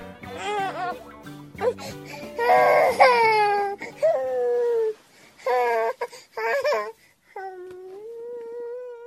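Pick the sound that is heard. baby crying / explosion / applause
baby crying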